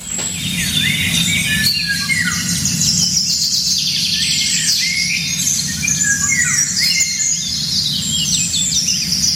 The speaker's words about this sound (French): Et tu peux nous dire, alors, c'est quel oiseau ? C'est un oiseau magnifique, alors on le voit pratiquement jamais, pourtant il a des couleurs de fou.